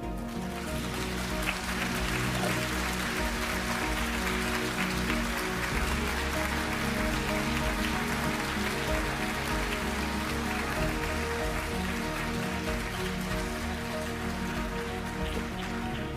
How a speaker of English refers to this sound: Thank you. After 6 years, I can appreciate that applause.